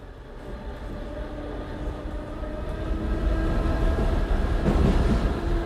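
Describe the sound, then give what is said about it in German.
Steady low rumble of an S-Bahn commuter train riding along the rails, a continuous rolling drone that grows slightly louder with a brief brighter rattle near the end, no voices. “In der S-Bahn riecht's nach Schweißfüßen.”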